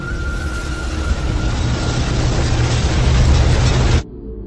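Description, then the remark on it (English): A suspension bridge groans and tears apart in a loud, continuous, deep roar of rumbling and grinding that builds steadily, then cuts off abruptly near the end. No voices. “And then, with a deep, thunderous groan, the bridge tears itself in half.”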